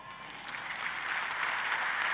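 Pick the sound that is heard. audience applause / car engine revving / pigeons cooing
audience applause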